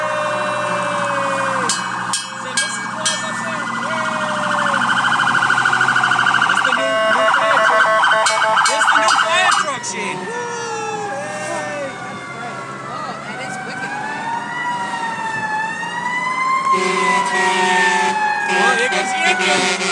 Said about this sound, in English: old Bolivio fire truck.